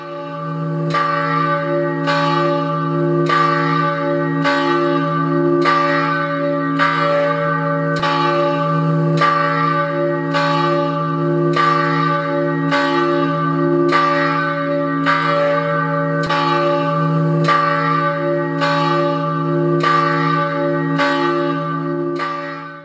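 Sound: church bell ringing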